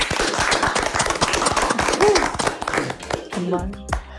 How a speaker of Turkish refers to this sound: şöyle bir birbirimizi alkışlayalım mı dostlar? Bravo.